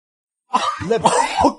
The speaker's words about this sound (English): Cough.